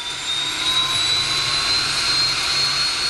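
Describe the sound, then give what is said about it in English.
A loud, steady jet engine roars, with a high whine over a broad rushing noise, as a NASA-owned airplane idles and prepares for takeoff from Truax Field in Madison, heading for high above Lake Michigan near Sheboygan. No one speaks. “A plane owned by the National Aeronautics and Space Administration, or NASA, prepares for takeoff from Truax Field in Madison.”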